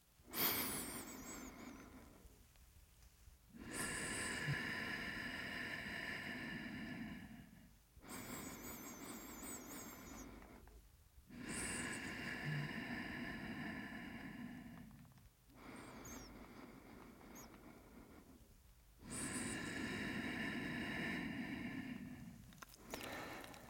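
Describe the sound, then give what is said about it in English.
Three slow, deep breaths taken close to the microphone, paced at about 4 seconds in and 4 seconds out, with short pauses between them and no talking. “You can listen to the pace of my breath, and I'll do 3 slow breaths at about 4 seconds in and 4 seconds out.”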